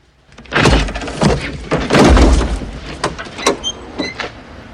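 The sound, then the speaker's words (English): Two suitcases thud and scrape as they are lobbed into the boot of an old yellow car in a few bulky, muffled impacts, followed by sharper clunks as the boot lid is slammed shut. Fairly loud, with no voices. “Randall lobs his cases in the boot and shuts it”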